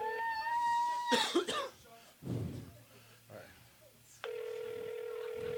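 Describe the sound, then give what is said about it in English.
A telephone rings through a handset as a call waits to connect: a short tone, a cough and shuffling noises, then a steady, loud electronic ring tone that holds until the end. “ringing.”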